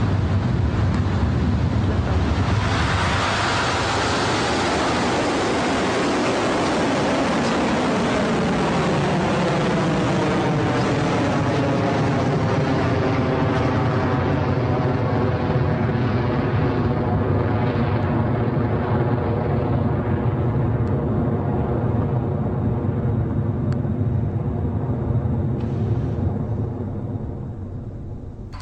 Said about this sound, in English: And that is a beautiful liftoff for Electron.